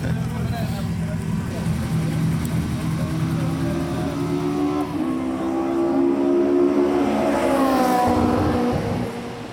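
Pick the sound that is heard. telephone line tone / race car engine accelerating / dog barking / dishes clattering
race car engine accelerating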